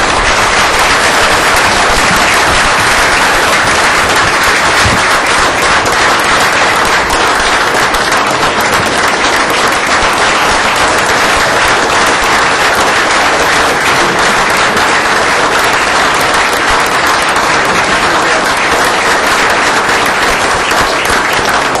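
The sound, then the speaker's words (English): A sustained round of applause from a meeting audience for Alderman Decoto and Alderman Barkley, dense and steady clapping that stays loud and even throughout, with no voices standing out. “Ladies and gentlemen, I believe that Alderman Decoto and Alderman Barkley deserve a round of applause.”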